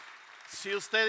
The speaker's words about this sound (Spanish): Denle un aplauso al Señor, hermano. Aleluya.